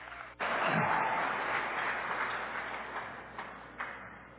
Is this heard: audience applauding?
yes